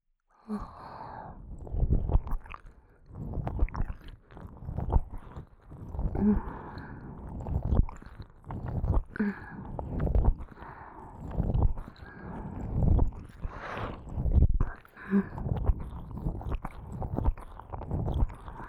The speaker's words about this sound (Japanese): ご主人様のお望み通り、今より速度を上げて耳を舐めてあげます。では行きますよ。